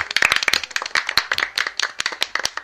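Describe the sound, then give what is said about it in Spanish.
A burst of applause from a small group for a Paralympic athlete, dense overlapping hand claps at a steady moderate loudness throughout, with no voices over it. “Es un mérito, sobre todo, el hecho de ser deportista paraolímpico, eso ya, y además yo creo que tiene el aplauso, ¿no?, de todos nosotros.”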